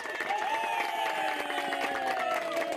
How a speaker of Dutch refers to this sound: Oké, nou, daarvoor geven wij gewoon een applaus.